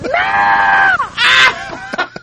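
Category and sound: human body sound, person screaming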